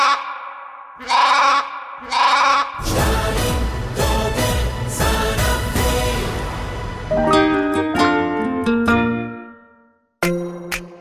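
Sheep bleating in several wavering, nasal calls, loud, with a heavy echo and processed, stuttering repeats layered into a dense wash of sound; nobody speaks.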